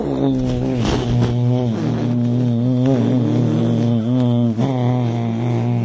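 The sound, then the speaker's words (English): A voice hums the syllable Om steadily in imitation of a buzzing bee, in the practice called Brahmara Japa, a continuous low droning tone with rich wavering overtones that holds for about six seconds without pause. “Brahmara is the bee. I Brahmara je reč za pčelu.”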